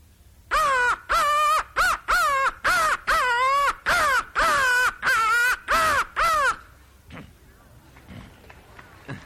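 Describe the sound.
A voice imitates crow caws, about eleven loud, harsh calls in a quick steady series, then stopping abruptly and leaving faint background noise.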